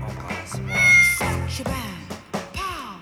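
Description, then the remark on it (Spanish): A female cat named Nehuen meows repeatedly and insistently, its drawn-out, wavering cries fairly loud, with a few shorter mews following over about three seconds. “Mi gata, Nehuen, una belleza.”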